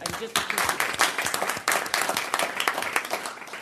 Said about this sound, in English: And if you've been out to the school sites, the kids are in classrooms, they're working, the teachers are already at it, and just a huge round of applause to them. So thank you.